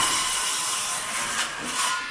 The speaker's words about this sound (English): Today, the sounds of saws and bulldozers are the norm on Bethany Road, just off Munson's downtown, which used to be lined with century-old colonials.